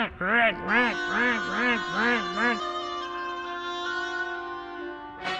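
A reedy, nasal instrument plays five quick, bending quack-like notes in a row, imitating an angry duck, then holds one long steady tone before stopping.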